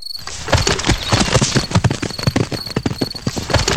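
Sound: horses galloping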